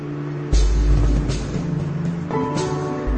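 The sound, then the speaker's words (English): Steady low rumble of idling and creeping vehicles in a city traffic queue in Nanjing, China, on Easter Sunday, with engine hum swelling and brief hissy bursts like air brakes, no voices. “What's this queue of traffic for?”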